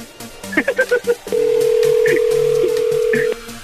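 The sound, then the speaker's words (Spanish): A quick run of phone keypad beeps, then a steady electronic ringing tone holds for about two seconds over faint background murmur, as a last attempt at an outgoing phone call rings before reaching voicemail. “Voy por el último intento, carnal. Espero que realmente nos conteste.”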